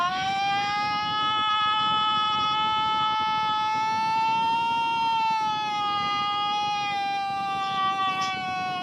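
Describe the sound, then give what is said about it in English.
A woman who won a competition in New York State imitates a Bigfoot call, one long, loud, high-pitched wailing howl held steady for the whole clip, its pitch rising slightly and then easing down, with a pet bird chirping. No one speaks over it. “That's the woman that won the competition over in New York State.”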